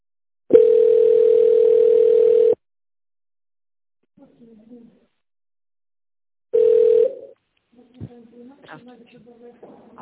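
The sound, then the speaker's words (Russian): A steady mid-pitched telephone ringback tone, heard while waiting for an operator to answer a call to the City Service group of companies, buzzes for about two seconds, pauses, then starts again and cuts off short, followed by faint, muffled voice sounds. “Дождитесь ответа оператора.”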